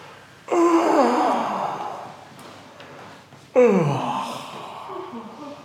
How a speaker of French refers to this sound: On se redresse et on redresse la tête. Et comme vous le proposiez, ben, on peut s'étirer et bâiller.